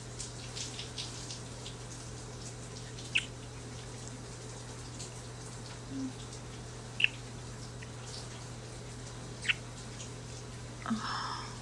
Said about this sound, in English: Allowing ourselves to have a long, steamy shower together.